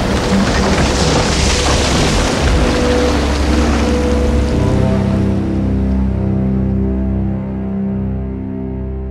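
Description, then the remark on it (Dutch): A ship, the Batavia, with people on board, breaks apart amid crashing ocean waves: a loud, continuous roar of surf and deep rumbling booms, with low groaning, creaking tones rising as the turbulent water noise slowly eases. “Look, the Batavia. Oh, nee. She's breaking up.”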